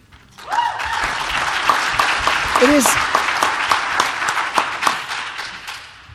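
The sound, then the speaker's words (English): An audience breaks into sustained applause, many hands clapping in a dense, steady wash that holds for several seconds, with a brief vocal exclamation rising through the middle. “You don't need to clap because I have to finish within 10 minutes.”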